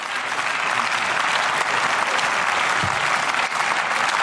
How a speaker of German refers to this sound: Da klatscht sogar die SPD mit.